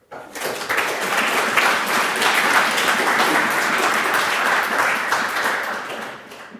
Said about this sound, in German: Ich glaube, also mein erster, wo es heute spontan Applaus gab, also da gab es die letzten zwei Tage auch nicht zwischendurch, das kannst du dir definitiv auf die Fahnen schreiben.